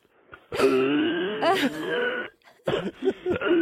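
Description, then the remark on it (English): A voice imitates dry heaving: one long, strained, groaning retch, a brief pause, then several shorter, choppy gagging heaves, all fairly loud and throaty. “Oh, that sounds like dry heaves. That's dry heaves.”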